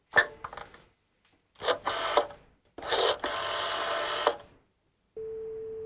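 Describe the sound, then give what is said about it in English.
A telephone handset is picked up with a clatter to call reception, followed by a few bursts of mechanical dialing, then a steady electronic line tone hums on at the end. Fairly loud, no talking. “He immediately picks up the phone and calls reception.”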